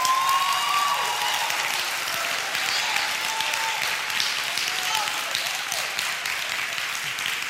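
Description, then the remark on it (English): An audience claps hands in praise of the Lord, loud, sustained applause, a dense crackle of many overlapping claps that holds steady throughout, with faint voices calling out beneath it. “Give the Lord a loudest hand clap of praise if you would.”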